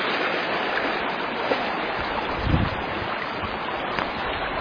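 creek water flowing

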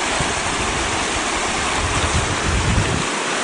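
creek water flowing

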